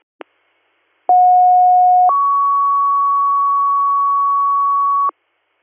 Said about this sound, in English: Clearing in service at 1058, your DR 1639, 1639, stand by for a double set of tones.